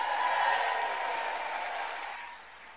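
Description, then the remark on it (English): An audience at an event put on by Move On applauds steadily, a dense wash of clapping that holds strong before tapering slightly near the end; no voices stand out. “Put your hands together for Move On.”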